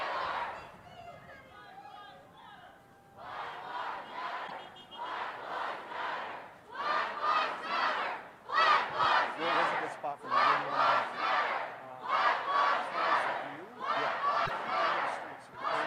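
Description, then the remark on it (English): A large street crowd shouts in rhythmic, repeated bursts, like chanting, starting moderately loud and growing louder and fuller about halfway through, with a steady babble of voices underneath. “We're going to head a little bit towards Jefferson Avenue so we can give you a better perspective of how many people are here.”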